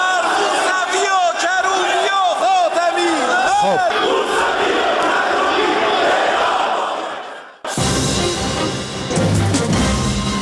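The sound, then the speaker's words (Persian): A large group of lawmakers in parliament shouts the slogan "Death to Khatami, Mousavi and Karroubi" in unison, their voices rising and falling in repeated rhythmic bursts. After a brief drop near the end, a loud, dense roar of crowd noise takes over. “غلامعلی حداد عادل در نطق پیش از دستورش اظهارات تندی را علیه رهبران مخالفان بیان می‌کند و به دنبالش جمع زیادی از نمایندگان حاضر فریاد مرگ بر خاتمی، موسوی و کروبی سر می‌دهند و برخی نیز خواستار اعدام آنها می‌شوند.”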